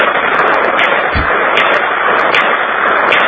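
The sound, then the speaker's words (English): Shots from a small .22 Jennings pistol fired in a driveway, heard over a telephone line: about four or five sharp cracks at a steady pace, buried in loud, crackling, band-limited phone noise with no one speaking. “What are you shooting? It's just a little .22 Jennings.”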